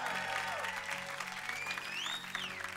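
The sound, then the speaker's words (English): A church audience breaks into sustained applause for their church, a dense wash of many hands clapping at steady loudness for a few seconds, with a few faint whoops and cheers rising above it. “Why don't we give a church a big old clap?”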